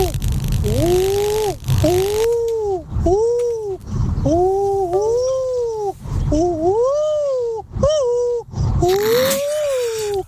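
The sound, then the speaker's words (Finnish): On the radio segment Suomi Rapin aamun älyttömimmät, an artist imitates an owl, this week's animal, with a series of rising and falling hooting calls, about eight or nine voiced hoots in an uneven rhythm, loud and alone over a low rumble. “Jälleen matkitaan täällä viikoittain vaihtuvaa eläintä tänään pöllöäänenä ja ensimmäinen artisti taajuudella”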